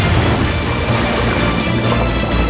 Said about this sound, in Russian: Где-то вздуется бурливо, океан подымет вой, хлынет на берег пустой, расплеснется в шумном беге